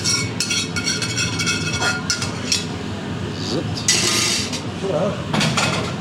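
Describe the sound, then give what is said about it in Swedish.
Metal utensils scrape and clink against a pan and dishes as mussels and a creamy sauce are spooned out and divided into two portions, a steady run of light kitchen clatter with a few sharper knocks. “Och sen så är det en ganska krämig sås i pannan till slutet som du fördelar också.”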